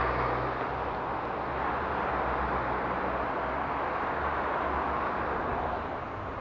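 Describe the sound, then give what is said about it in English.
A steady, dense roar of road traffic passing at a crossing with traffic lights, with a low engine rumble underneath and no pauses or voices over the full stretch. “Oh, I think the traffic lights have gone on red.”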